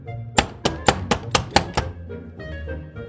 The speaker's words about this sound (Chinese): 这时候有人敲门